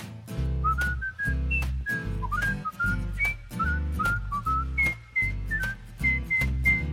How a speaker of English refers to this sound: I love to whistle, 'cause it makes me merry, makes me feel so very. I love to whistle everywhere I go.